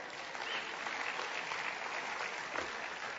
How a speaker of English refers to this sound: Thank you. Your applause is much more meaningful than a gift, really. Thank you.